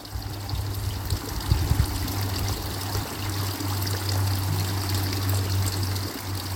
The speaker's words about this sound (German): Gib alles dem Wasser, dem fließenden Bach, dem Fluss des Lebens, was du nicht mehr brauchst.